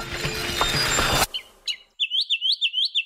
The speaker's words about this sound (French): Selon un article récent publié dans la revue Frontiers in Psychology, l'oiseau moqueur suit en effet des règles musicales similaires à celles que respectent les grands artistes de la chanson.